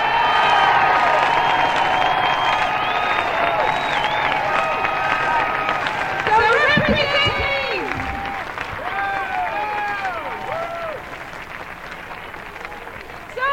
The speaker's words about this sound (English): let's face it, to pull this march off, these people have worked so hard. How about a terrific round of applause for the National March on Washington Committee?